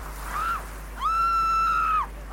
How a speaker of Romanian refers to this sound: S-a auzit un țipăt.